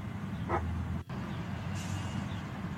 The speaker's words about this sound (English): I think it's a Husky. At the drive-thru, they get the car. Look at this. The bark. Yeah. Give me that. The couple behind filming the dog at the drive-thru.